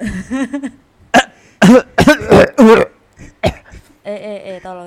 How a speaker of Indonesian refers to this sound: Tadi batuk-batuk tok. Ayo keluar. Batuk-batuk gak ngomong.